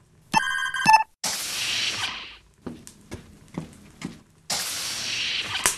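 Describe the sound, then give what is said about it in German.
A bright electronic door chime on a starship rings in two quick bursts as Captain Satchel presses the bell button, followed by loud airy whooshes and scattered mechanical clicks, with no voices. “Was ist das denn für ein Geräusch? Das ist ein Klingelton. Es möchte jemand hereingelassen werden.”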